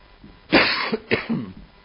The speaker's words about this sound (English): Excuse me. Hope I don't have a cough fit here.